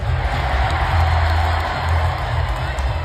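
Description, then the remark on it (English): A large arena crowd at a Marquette Golden Eagles game roars and cheers wildly as Rick Smith, in a suit and Marquette tie, jumps around at his seat, a loud, steady wall of voices with scattered whoops that holds for about three seconds without letting up. “He gets out of his seat and jumps around, decked out in a suit and a Marquette tie, and the crowd goes wild.”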